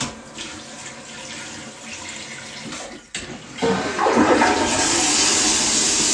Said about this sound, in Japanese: もう一回流します。さっきちょっと自動で流れちゃったんで、はい。